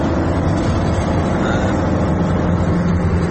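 A heavy truck carrying camouflaged medium-to-short range missiles, its engine rumbling loudly and steadily, a deep continuous drone with a gritty mechanical texture and no voices.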